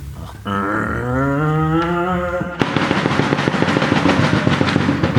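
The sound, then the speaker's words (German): A voice mimics a bus pulling away: a droning hum that slides up and down in pitch for about two seconds, then jumps into a loud, rapid, rattling buzz that keeps chugging steadily to the end. “Dann fährt der Bus los.”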